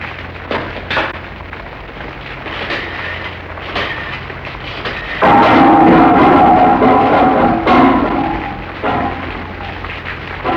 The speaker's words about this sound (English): Going to be a storm. Here comes the rain.